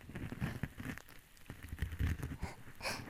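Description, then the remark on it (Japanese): Soft, steady rain patters faintly while a gentle fizzing crackle runs through it, with scattered tiny pops and ticks. No voices, just a quiet, continuous hiss. “のかにシュワシュワした音と、うっすらと聞こえてくる雨の音”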